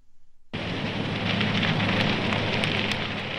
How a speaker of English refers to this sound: Flames are crackling in California.